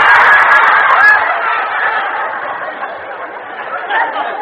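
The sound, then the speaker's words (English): A person's voice imitates an Indian war whoop with a loud, continuous, honking, warbling cry that holds steady for several seconds, slightly fading near the end. “Supposed to be an Indian war whoop.”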